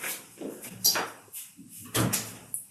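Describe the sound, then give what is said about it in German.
A door is pushed shut, with a few short wooden clunks and rattles and one firmer thud near the end. “Kannst du vielleicht nur die Tür zumachen?”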